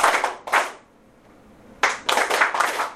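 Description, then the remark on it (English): Sharp hand claps in a rhythmic pattern during a rhythm lesson, played in place of the spoken 'achadi, achadi': two quick claps, a short pause, then a steadier run of about five claps. The claps are crisp and fairly loud, with no talking. “Now, I'm not going to say achadi, achadi, but you're still going to play clap, clap.”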